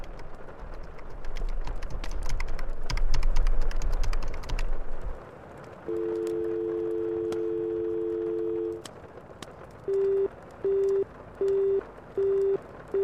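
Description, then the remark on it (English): Clattering clunks of 20 pence coins dropping into the slot on top of an old blue payphone in a cafe during heavy rain, followed by a steady dial tone and then a regular beeping busy signal repeating at an even pace. No one speaks. “Put a few 20 pence pieces into the slot on the top of the old blue phone.”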